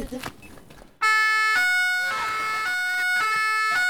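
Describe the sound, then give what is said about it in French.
After a second of murmured talk, a loud emergency vehicle two-tone siren bursts in, its steady harmonic-rich notes alternating between a higher and lower pitch roughly every half second. “Donc l'avertisseur sonneur, il y a deux modes.”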